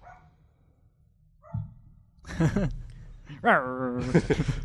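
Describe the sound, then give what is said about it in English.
A dog barks in a few loud bursts, one stretched into a drawn-out, yelping howl, over a low steady hum, on the night before the Fourth of July. “It's going to be almost impossible doing a podcast the night before the 4th of July, because everyone's lighting up fireworks, there's people here, my dog's barking.”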